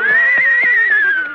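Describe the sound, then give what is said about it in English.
A horse named Mendel, rented from a riding academy, whinnies loudly: one sustained, wavering neigh lasting just over a second that trails off slightly at the end, heard alone with no talking. “Kitzel, is this your horse?”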